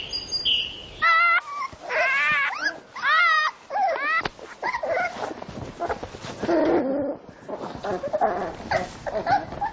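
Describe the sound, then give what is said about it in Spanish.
Young fox cubs about a month old let out a burst of high, squeaky whimpers and sharp yips, several calls in quick succession, followed by softer snuffling and scuffling noises. “Con un mes de vida, los cachorros de zorro están más fuertes y sienten curiosidad por el mundo que los rodea.”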